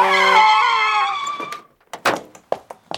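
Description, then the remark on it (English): A loud truck horn blares, overlapping a screech of the truck's skidding tires for about a second and a half as a man runs across the street in front of it, then a few sharp, scattered knocks and thuds follow. “He ran in front of my truck. I didn't see him.”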